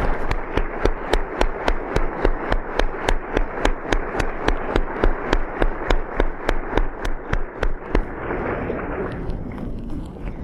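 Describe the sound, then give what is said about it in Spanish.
An audience applauds the facilitators steadily, many hands clapping together in a fast, even rhythm with sharp beats over a dense wash of claps, then the clapping thins and fades out near the end. “Si ustedes pueden darles un aplauso a los facilitadores.”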